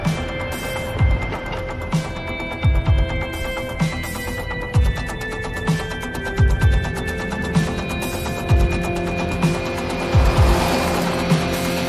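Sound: car driving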